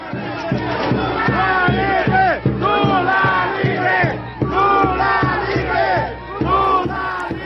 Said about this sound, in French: Et pas encore, on va y revenir, mais ça n'a pas empêché les effusions de joie au moment de l'annonce devant le siège de la Cour à Brasilia. Voilà ce que ça donnait.